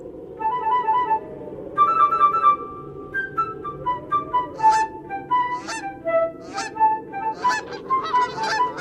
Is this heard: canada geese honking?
yes